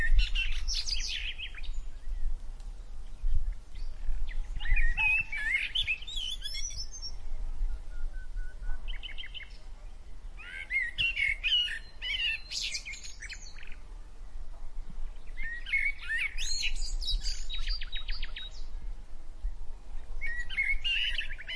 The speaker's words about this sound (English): The forest bid them goodbye with the same cheerful bird song that had welcomed them that morning.